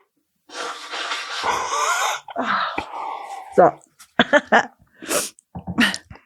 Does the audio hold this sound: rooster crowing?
no